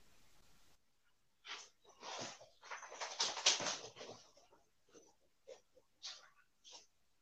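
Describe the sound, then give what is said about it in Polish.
A leashed dog breathes heavily, with a cluster of rough, huffing snorts followed by several short, sharp sniffs and puffs spaced out in the quiet. “Osmyczkowanego psa mam.”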